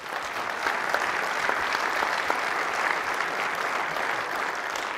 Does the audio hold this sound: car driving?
no